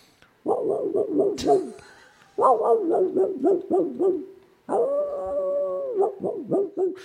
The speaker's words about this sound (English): I was picturing maybe like a gruff terrier of some type. No, it's a hound in the distance.